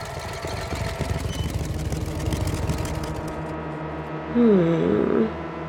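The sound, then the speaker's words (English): Steady low rumble of the engines of four black cars idling around a residence, a continuous throbbing drone with a brief rising whine toward the end, no voices. “Four black cars that don't belong on this block surrounding my domicile.”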